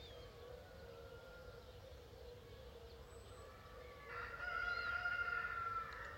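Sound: rooster crowing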